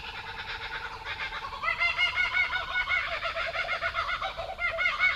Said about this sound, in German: Das ist der Laughing Kookaburra. Genau, und da hat man jetzt auch einen zweiten. Und da war auch leise eine Australian Magpie noch zu hören.